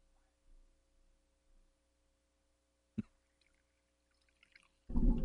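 A low electrical hum, then a sharp click and a few faint trickles before a sudden, loud gush of water pours from a water cooler during a game of water cooler roulette.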